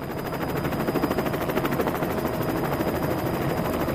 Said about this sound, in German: Oh weh, jetzt kreist auch noch ein Helikopter um mich um. Was will der denn von mir?